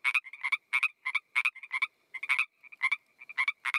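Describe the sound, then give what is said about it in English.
Frogs croak in a rapid, rhythmic chorus of repeated bursts in Vancouver, fairly loud and close, with no voices or other noise around them. “I noticed the sound of frogs seemed louder and closer”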